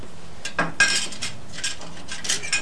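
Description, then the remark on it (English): Clinks and clatters of a coffee pot being handled, a series of bright metallic knocks and scrapes arriving in irregular bursts, moderately loud with no talking. “That's a coffee pot, right?”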